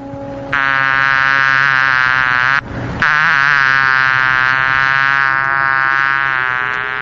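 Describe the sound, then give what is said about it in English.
A bee buzzes loudly and steadily, its droning hum holding for several seconds with one brief break partway through, and no one speaking. “Bee, why do you sing here so much about the Lord of the Yadus in front of us homeless people?”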